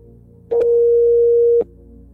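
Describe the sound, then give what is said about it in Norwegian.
A single steady telephone ringback tone, the ringing heard on an outgoing call back to the Oslo public prosecutor's office, sounds for about a second, loud and clear over a faint line hum, with small clicks as it starts and stops. “Ja, det er Stein Morten Lier som ringer tilbake nå.”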